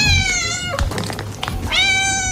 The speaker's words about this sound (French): Sortez-moi le chat du studio là, par rapport à cette.